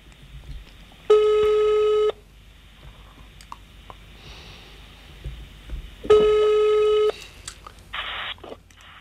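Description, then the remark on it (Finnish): Two steady one-second ringback tones sound on an outgoing phone call made on speakerphone, spaced about five seconds apart, each a flat mid-pitched buzz over a quiet line with faint clicks between. “No nyt se soi.”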